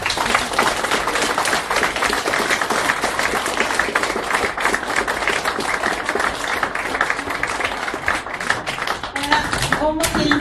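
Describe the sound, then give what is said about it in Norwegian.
Sustained audience applause, a dense wash of many hands clapping steadily and loudly for about ten seconds, with a few brief voices surfacing near the end. “Applaus til deg!”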